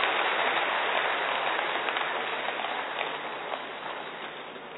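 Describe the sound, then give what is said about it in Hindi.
A crowd applauds in a dense, steady wash of clapping that holds for several seconds and eases off slightly toward the end, with no voices over it. “हाँ all right, सबके लिए ताली बजाएं, बहुत सुंदर।”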